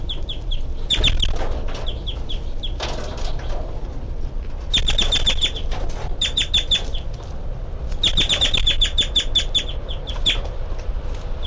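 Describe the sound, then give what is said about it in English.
A baby bird held in a hand gives its sea call: rapid bursts of thin, high-pitched peeping calls, repeated in quick series with short pauses between, over soft rustling and handling noise. No one speaks. “So recording is 3:30, and I've got one of 3-3's babies here in my hand, and it's giving the sea call.”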